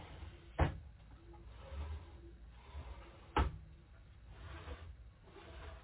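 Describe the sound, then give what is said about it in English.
Kitchen drawers open and shut twice, each a sharp wooden knock with a brief slide, about three seconds apart, over a quiet background hum. “And we have two shelves at the bottom. And we have three drawers.”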